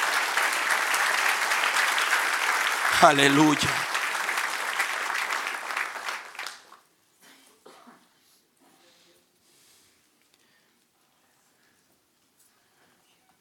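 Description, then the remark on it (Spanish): A church audience applauds in praise of the one who reigns forever and ever, loudly and steadily for about six seconds, with a single voice calling out briefly in the middle, then the clapping dies away into silence. “Dale un aplauso al que reina por los siglos de los siglos.”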